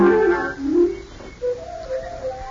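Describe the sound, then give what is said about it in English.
Birds in the trees sing in short, clear whistled chirps, a few brief mid-pitched notes repeating at a moderate volume, following a brief opening of sustained tones. “The birds are making all the birds in the trees,”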